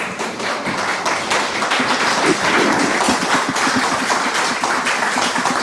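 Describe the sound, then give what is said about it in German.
An audience at a live recording applauds, with many hands clapping in a dense, crackling wash that holds at a steady loudness for several seconds, with no voices. “Und das Schöne an dem Live-Podcast war natürlich auch, es gab etwas, was wir so sonst nicht bekommen. Applaus!”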